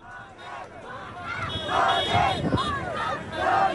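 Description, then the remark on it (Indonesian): A crowd of protesters in Sri Lanka, occupying the entrance to the president's office and demanding the resignation of Gotabaya Rajapakse over the economic crisis, shouts and chants together, many overlapping raised voices forming a loud, continuous roar with rhythmic surges that build toward the end. “Para demonstran di Sri Lanka kembali menduduki pintu masuk kantor presiden untuk hari kedua berturut-turut, menuntut pengunduran diri Gotabaya Rajapakse karena krisis ekonomi terburuk yang terjadi di negara yang dililit hutang itu.”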